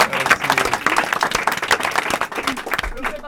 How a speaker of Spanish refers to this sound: Un aplauso para Mari Carmen también.